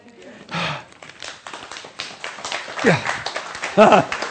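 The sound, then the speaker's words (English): Scattered clapping from a few people as a speaker finishes a talk, a run of sharp irregular claps lasting several seconds, with brief vocal sounds and a short exclamation rising over it near the end. “Yes, clapping that I'm finished.”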